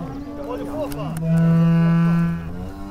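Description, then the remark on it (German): Cows of the farm auf der Wurb in Brake, Oldenburger Land, Lower Saxony, moo as they leave the winter barn for the pasture, one long, loud, steady low moo swelling in the middle and fading, with other lowing cattle calls overlapping before and after. “Unser Niedersachsen-Korrespondent Alexander Budde hat den Ausgalopp der Kühe aus dem Winterstall beobachtet.”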